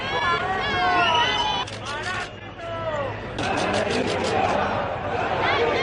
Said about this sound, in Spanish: Esos aplausos a la familia real han contrastado, sin embargo, con los abucheos y los pitidos que ha recibido el presidente del gobierno, Pedro Sánchez, al que han llamado otras muchas cosas, entre ellas parásito.